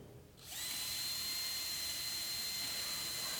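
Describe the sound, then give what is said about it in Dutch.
A cordless power drill starts up after a brief quiet moment and runs steadily at full speed, a loud high-pitched motor whine with a constant tone that holds for about three seconds. “Kijk, dat lukt met die boor heel makkelijk.”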